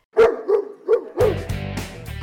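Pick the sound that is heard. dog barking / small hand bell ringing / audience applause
dog barking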